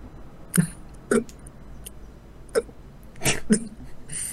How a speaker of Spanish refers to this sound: Dime, hipo.